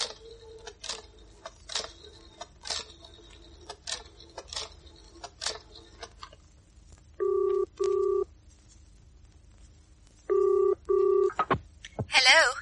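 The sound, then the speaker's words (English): A telephone is dialed with a run of sharp clicks, then the line rings twice, each ring a short steady double burst, fairly loud with no one talking; a call from a public phone box to a factory. “I'd better ring the factory before it closes.”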